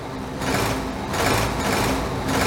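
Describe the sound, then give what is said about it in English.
The diesel engine Diesel revs in several surging swells over a steady mechanical hum, loud, with no voices, before racing Thomas to the engine sheds. “Diesel revved his engine.”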